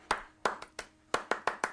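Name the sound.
hand clapping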